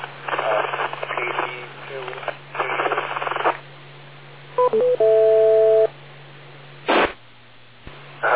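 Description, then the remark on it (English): Over a steady low hum, muffled radio-style talk gives way to a couple of short electronic beeps and then a longer held dual tone, keypad button tones from a wrong button pressed during an amateur radio exchange, followed by brief static bursts. “I pressed the wrong button.”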